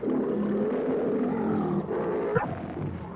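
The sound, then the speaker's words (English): A lion roars loudly and continuously, a deep, rumbling bellow filling the whole stretch, with a brief sharp burst partway through and no voices. “the fierce challenge of the bull ape rings out to mingle with the lion's roar”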